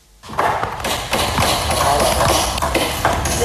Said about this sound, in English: The sounds of hammers nailing together exhibition stands that will showcase the Cameroonian label and other things during the week-long economic rendezvous known as SAGO.